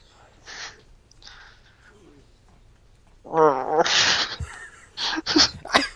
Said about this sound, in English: The dogs are so excited for Pokemon. They want me to make out with them. Puppy growling intensifies. Whose dog is that?